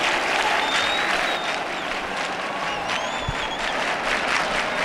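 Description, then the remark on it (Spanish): Dense, sustained applause from a large crowd outdoors, outside a church as the float of the Virgen del Rocío is about to move, steady and fairly loud throughout, with faint whistles rising above the clapping. “Y aquí las palmas en el exterior.”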